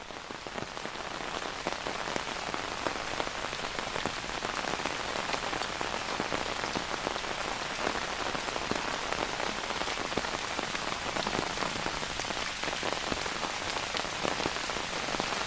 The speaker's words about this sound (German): Dein Regenschirm ist aufgespannt und du hörst das monotone Prasseln.